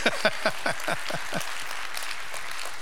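A church audience breaks into applause for the Long Range Planning Committee members standing during the service: a few sharp, distinct claps stand out at first, then blend into a steady, moderately loud patter that thins out toward the end. No one speaks.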